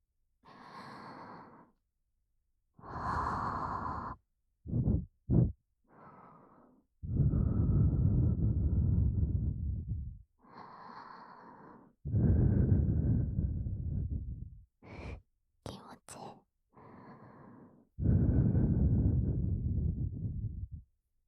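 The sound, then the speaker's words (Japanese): A series of soft, breathy blows of air into the listener's ear, some long and drawn out, others short quick puffs, repeating with brief pauses and no talking. “じゃあ舐める前にもっとフーフーしてあげましょうか。”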